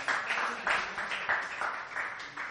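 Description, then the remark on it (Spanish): A group claps for everyone who took part, a dense, hissy patter of hands that swells in quick rhythmic waves for a couple of seconds at moderate volume, with no voices on top. “Pensarla, muy bien, eso es ser honesto, muy bien, un aplauso a todos los que participan.”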